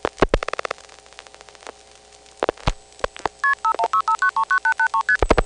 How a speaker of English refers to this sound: In the next segment, we'll dial a 1 on the originating switching train, which will enable us to dial long-distance calls through the system that is used from non-coin phones.